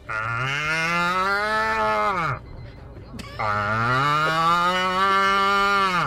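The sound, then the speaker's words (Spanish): A man's voice, sent as a voice note from Hortaleza, imitates cattle mooing: two long, loud, drawn-out moos, each swelling slightly in pitch and separated by a short pause, sounding clear. “Y así imito yo a las, a las reses vacunas.”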